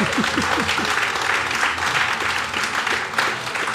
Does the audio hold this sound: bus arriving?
no